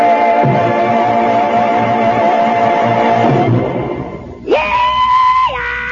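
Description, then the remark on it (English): A loud rebel yell rings out, a long wavering whoop that breaks off, then swoops sharply upward into a piercing held cry before dropping away. “I'm just doing a rebel yell here to kind of kick things off.”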